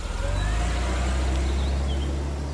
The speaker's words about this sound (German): buxierte ihn in das Auto und stieg dann selbst ein. Und los ging die Fahrt.